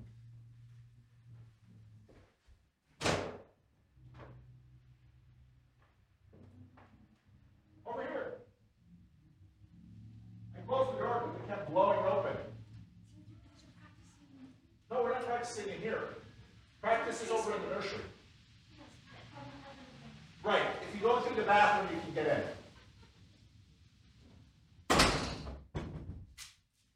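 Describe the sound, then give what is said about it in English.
A door is opened for someone arriving during a Sunday school class, with a sharp click and thump of the latch, followed by muffled voices and shuffling, then another abrupt knock-like bang near the end. “Well, I gotta open the door.”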